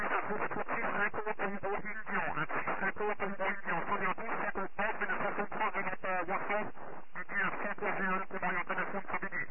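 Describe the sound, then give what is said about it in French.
Narrow-band shortwave radio audio with crowded, overlapping transmissions from other stations, voices piling on one another in a steady, thin, band-limited stream with no quiet gaps. “c'est très difficile, Philippe, si ce pays était au 4 écho, il y a beaucoup de QRM comme d'habitude”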